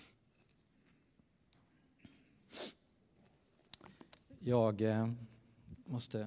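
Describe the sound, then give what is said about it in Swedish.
A short, sharp burst of breathy nasal noise, a sniff and nose blow by a speaker at the front, among faint rustles, followed by a few seconds of someone talking. “Jag sniffar ju.”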